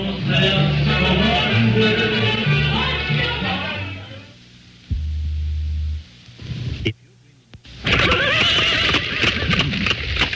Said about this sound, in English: You're listening to the sound of a bygone era, the horse and buggy days